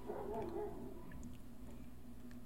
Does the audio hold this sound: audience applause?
no